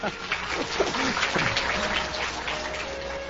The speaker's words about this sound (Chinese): 你说对不对？对就拍手啊。